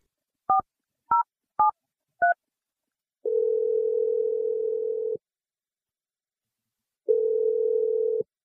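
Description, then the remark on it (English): Four quick touch-tone beeps from a phone keypad as someone dials a phone call, then a steady telephone ring tone that sounds twice with a long pause between, clear with no voices. “We're going to step away and let you make this phone call, but we'll be listening quietly in case you need a little bit of help, okay?”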